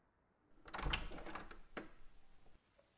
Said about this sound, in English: Can you open the door?